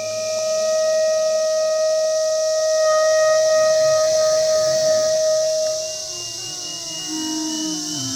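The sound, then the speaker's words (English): A dense, steady, high-pitched drone of millions of cicadas fills the whole recording during a live performance in a field, while a clarinet and an iPad play long sustained tones and gliding notes over it, one held note dropping away after about six seconds. “Okay, so this is a live performance live in the field of me and my son and millions of cicadas playing live.”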